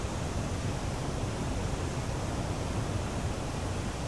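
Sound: waterfall rushing water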